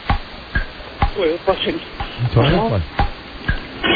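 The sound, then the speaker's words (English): A voice imitates a toilet flushing, making warbling, gurgling sweeps over a steady hiss, with sharp clicks recurring about twice a second, as a caller's entry in the Make That Noise game on the Don and Mike Show. “The sound is a toilet flushing.”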